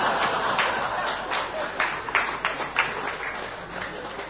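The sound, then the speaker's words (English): A crowd claps steadily for several seconds, a dense patter of many hands with a few sharper individual claps standing out. No one speaks over it. “You clap, but I'm serious.”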